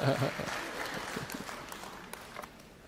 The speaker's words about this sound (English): Gyms will be out of business. Some of you want to clap on that? I don't know if that's right.